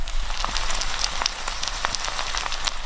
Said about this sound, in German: der Wok brutzelt auch schon so ein bisschen. Lass mal die Hörer was hören. Warte mal, ich halte mal mehr Mikro näher ran.